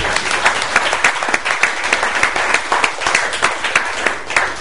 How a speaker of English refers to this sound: Can we have just one last round of applause for all the panelists?